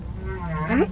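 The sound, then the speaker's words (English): A single drawn-out whale call, a tonal, harmonic moan that swells and sweeps upward in pitch toward its end, heard alone over a low underwater rumble. “We call our communication language. We think what whales do is different.”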